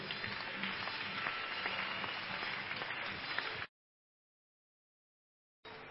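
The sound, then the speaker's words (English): A church audience claps hands for Jesus in a dense, sustained burst of applause for several seconds, then it cuts off abruptly, with the clapping briefly returning at the very end. “Church, clap your hands for Jesus.”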